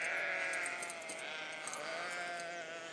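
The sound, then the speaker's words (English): Baby lambs bleat in a steady, overlapping chorus of high, wavering cries that fill the whole clip at a fairly even loudness, with no talking. “Man, it's lamb fest over here. Loads of baby lambs.”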